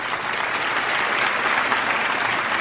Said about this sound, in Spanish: Miré al teatro de la universidad y solo vi a mi padre. Él estaba feliz y me aplaudía.